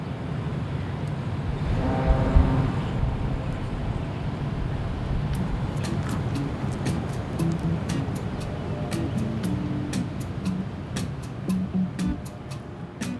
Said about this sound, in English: The foghorn you're hearing is from a freighter, one of those massive commercial vessels moving through the locks at Sault Ste. Marie.